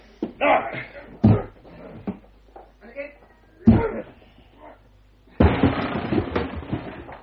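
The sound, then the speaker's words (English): Two heavy thuds land against a wooden door a few seconds apart as a person rams it with a shoulder, then a loud splintering crash as it gives way, with scuffling and rattling debris after; some voice sounds mixed in. “I shall need your shoulder to help break down the door.”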